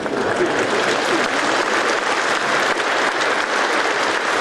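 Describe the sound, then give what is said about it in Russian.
Sustained audience applause, a dense steady patter of many hands clapping at an even loudness for several seconds, with no voices standing out above it. “У этих аплодисментов глубокий исторический смысл.”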